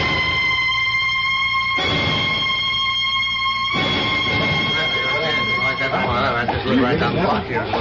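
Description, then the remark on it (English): Steady, harmonic-rich police car siren tones from approaching police cars hold for about two seconds each and shift pitch between segments, giving way to a jumble of voices and commotion near the end. “Those police cars. They're coming here.”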